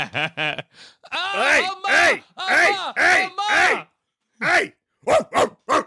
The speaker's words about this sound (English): Hey! That's the swearing dog.